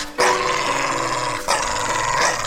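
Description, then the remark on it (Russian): A dog growls loudly in two long, rough, rumbling stretches, the second starting after a brief dip, with no voices present. “оставь эту собачку.”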